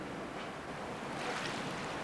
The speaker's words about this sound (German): Und das Meer kreist unten um die Felsen.